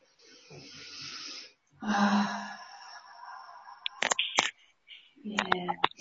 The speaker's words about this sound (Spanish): Pero inhalando bien profundo, llenando de aire el cuerpo, abriendo espacio, y exhalando y soltando y lo pueden hacer con un sonido también en la exhalación.